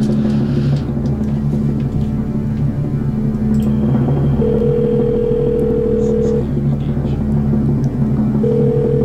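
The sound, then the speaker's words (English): A phone line's ringback tone on a phone call put on speaker sounds twice, each a steady two-second electronic purr separated by a pause, over a constant low rumbling background hum. “There we go. It's ringing at least.”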